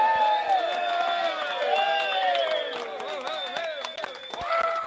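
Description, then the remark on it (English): A live crowd at a broadcast of the show The Political Cesspool cheers and whoops loudly, many voices blending into a sustained roar with overlapping high shouts and yells, dense and continuous throughout with scattered clapping underneath. “Now, I've been really broadcasting the fact that we've got a lovely crowd here.”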